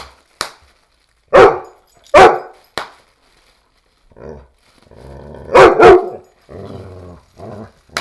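A male dog pounces on and attacks bubble wrap, letting out loud, sharp barks in pairs with lower growly rumbles between them, while quick crackling pops of the bubble wrap snap in brief bursts. No one speaks.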